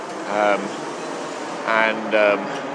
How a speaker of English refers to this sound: The main noises you can hear are traffic passing in front of me.